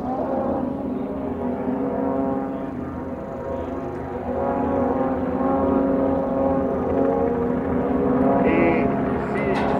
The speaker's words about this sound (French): Un avion.